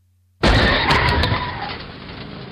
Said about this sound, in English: Hey, that car just ran a red light and hit that truck. Is anyone hurt? I don't know. Let's call 911. Hello? I'd like to report a car accident near the post office on Charles Street. It looks like a man is hurt.